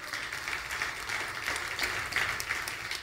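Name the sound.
audience applauding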